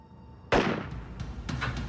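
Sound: gunshot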